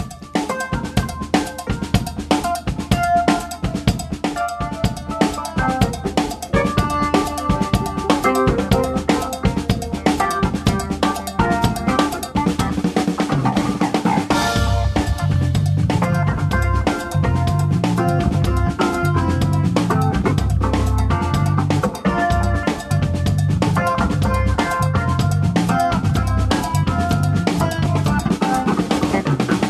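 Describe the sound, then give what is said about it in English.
Funky, upbeat instrumental jazz from a duo that played the Live at the Fort series. It has a steady rhythmic pulse and bright percussive accents like cowbell, and a deep, punchy bassline enters midway and drives the groove. No voices. “They're a duo, and it's that sea of possibilities again that falls under the jazz umbrella.”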